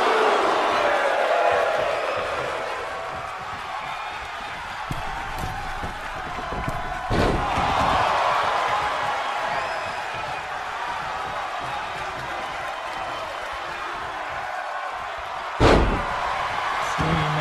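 A wrestler counters a chokeslam and body slams his opponent onto a wrestling mat, one loud thud midway and another sharper crash near the end, over a steady roar of crowd noise.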